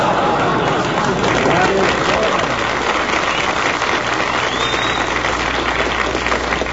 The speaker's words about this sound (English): That's the corned beef crowd applauding us.